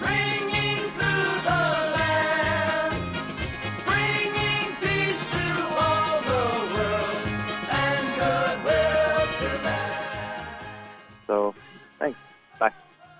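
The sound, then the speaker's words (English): Jingling Christmas bells shimmer through a full, loud song with a singing voice, then the music drops away, leaving a few separate bright bell strikes ringing out near the end. “Christmas bells, those Christmas bells.”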